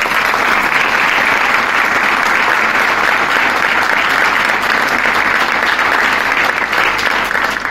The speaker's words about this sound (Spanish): y por eso también quiero agradecerle y también quiero que le brindemos un fuerte aplauso.